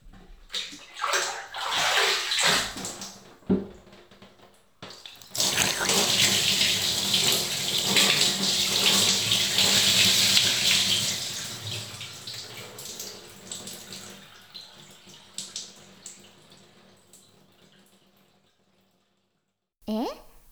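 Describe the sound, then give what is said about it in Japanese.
Water runs and splashes steadily, like rinsing from a handheld shower or tap, rinsing shampoo foam from hair little by little, swelling to a broad hiss for several seconds before tapering off into quiet, with soft movement sounds around it. “大変余分にわしゃわしゃしましたから、そろそろ泡を流しますよ。今度はザバーじゃなくて、もっと少しずつ洗い残しのないように。”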